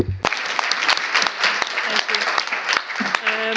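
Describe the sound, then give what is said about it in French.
An audience breaks into steady, dense applause for the speakers at the rostrum after a debate, as the session is about to close. The applause starts abruptly and continues throughout, fairly loud, with a voice faintly audible beneath the clapping near the end. “Et je vous invite à les applaudir.”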